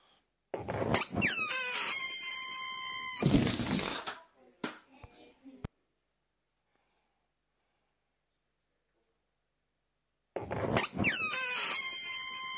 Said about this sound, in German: So ein Luftballon, wo man so die Luft so rausquietschen lässt.